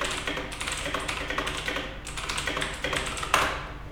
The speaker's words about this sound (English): I'm now facing the recorder, pressing the keys with my right hand. And now I'm facing my computer and typing as I normally do.